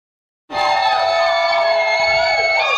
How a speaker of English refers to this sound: Praise the Lord. Some can say, how can we just be shouting? What happened that we are shouting?